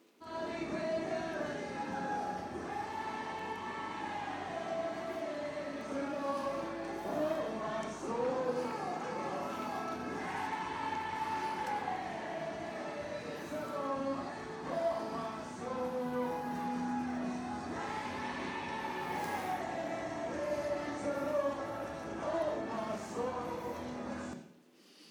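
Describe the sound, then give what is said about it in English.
A group of children sings praise together loudly and continuously, their melody rising and falling in unison with a slightly ragged, spontaneous feel, filling the whole stretch; the praise breaks out spontaneously as they go to the bus at the Kakira Care Point. “And then as we're going to the bus, all of a sudden praise just breaks out and it looks a lot like this.”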